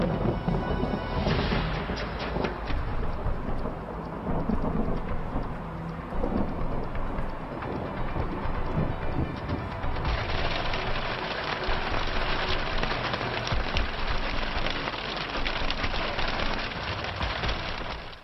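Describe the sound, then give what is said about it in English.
A violent thunderstorm: heavy rain pours steadily while deep thunder rumbles underneath, loud and continuous for the whole stretch, with no voices. “The weather is changing over, and you can tend to get some violent storms.”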